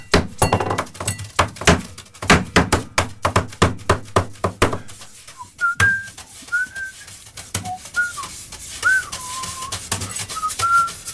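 A drummer plays fast, rhythmic drumming on a studio table and a glass, with sharp hits for about five seconds, followed by a high whistled melody of short sliding notes with no talking.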